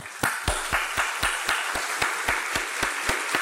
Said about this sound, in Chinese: 我想请在座嘅导师你哋都起身，我哋可以俾啲掌声鼓励下佢哋。